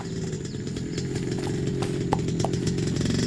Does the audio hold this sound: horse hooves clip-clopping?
yes